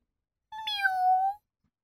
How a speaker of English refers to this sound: Oh, and I've got 3 cats. They're very pretty. Meow. Meow.